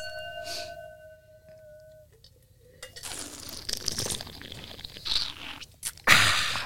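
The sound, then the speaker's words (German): A glass rings out briefly with a fading tone, then airy slurping of wine during a wine tasting rises for a few seconds and ends in a louder, sharp slurp. “Wird geschlürft.”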